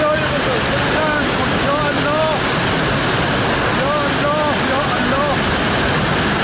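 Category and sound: nature, rushing floodwater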